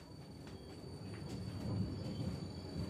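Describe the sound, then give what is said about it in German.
A Taurus-series electric locomotive, of the kind used by the Austrian Federal Railways, rumbles low and steady, with a thin, constant high-pitched singing tone humming above the noise. The sound swells slightly toward the end, and no one speaks. “der Baureihe Taurus, mit denen zum Beispiel die österreichischen Bundesbahnen unterwegs sind. Taurus. Sie haben das sicherlich schon einmal gehört.”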